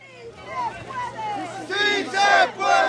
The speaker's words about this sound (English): This was the scene back in December, scores of workers staging a sit-in at the Republic Windows and Doors factory in Chicago while fellow employees and supporters marched and chanted outside.